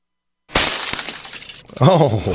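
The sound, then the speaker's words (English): Glass shatters on the ground with a sudden bright crash, followed by a tinkling spray of fragments that fades after about a second, then a person starts talking. “It sounds like metal glass. Mm-hmm. Like that's a thing, right? It sounded like it, cause obviously it shatters when it hits the, yeah, when it hits the ground, but that little whoosh right before it.”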